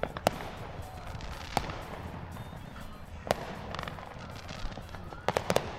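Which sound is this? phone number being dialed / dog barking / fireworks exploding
fireworks exploding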